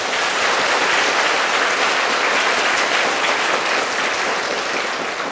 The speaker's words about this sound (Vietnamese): Nếu các bạn thấy rằng là việc này làm được thì cho một tràng pháo tay thật lớn nào.